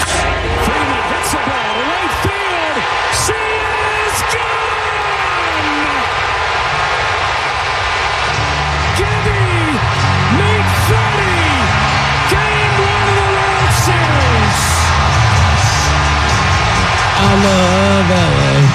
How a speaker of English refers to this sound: If you missed it, the play-by-play is just fantastic, but you got to see the visual of the entire Dodgers stadium. It looked like the entire crowd was just bouncing up and down, and here's how it sounded.